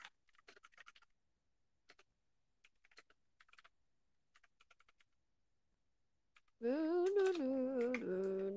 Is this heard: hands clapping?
no